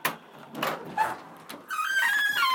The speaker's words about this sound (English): Shut up, I really need to oil that door.